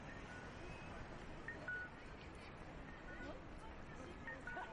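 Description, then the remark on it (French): Short electronic beeps from a pedestrian crossing signal sound at moderate volume in two brief bursts, over a steady wash of busy street noise. “Donc, petit son rassurant. Tu peux traverser, ça va bien aller.”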